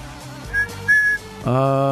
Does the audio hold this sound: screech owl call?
no